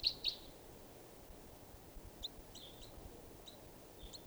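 juvenile bird calling

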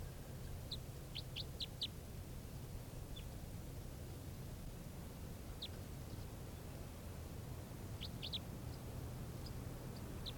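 bird calling

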